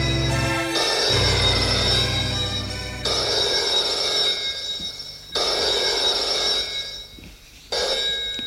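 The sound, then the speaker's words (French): A telephone rings in a bedroom in loud, bright repeated bursts, each long trill separated by short pauses, with no talking over it. “Demi-heure plus tard, le téléphone sonne dans la chambre de Franblanc, de Maurice.”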